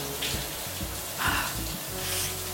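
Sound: shower water running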